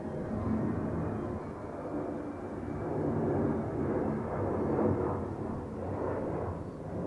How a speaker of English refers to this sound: Hold for plane.